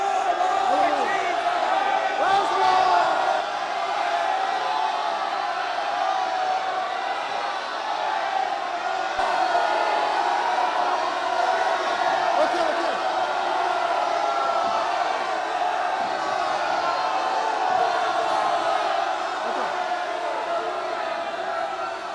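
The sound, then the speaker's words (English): A large crowd stands up and shouts and yells together in a loud, unbroken roar for over twenty seconds, with scattered whoops and cries rising out of the dense wall of voices. “So brothers, how about all of us right now, just for 15 seconds, let's just stand up and rock the house. Shouting.”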